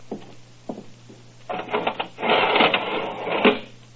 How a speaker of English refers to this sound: First of all, if you'll be good enough to go inside and lower the iron shutter, I'd like to see just how impregnable it is.